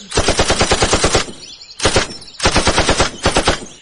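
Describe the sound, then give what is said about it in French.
Rapid, loud bursts of automatic gunfire in a forest, fired to put down a suffering animal, aimed at its jugular: a long volley, a short one, then another long volley, each shot cracking in quick, steady succession with brief pauses between bursts. “Je visais directement la jugulaire.”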